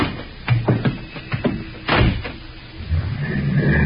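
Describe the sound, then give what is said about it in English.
A car door shuts with a heavy, solid slam, preceded by a few lighter clunks and clicks of handling. Afterward a steady low rumble rises and continues to the end. “All right. Get in the car, Dave.”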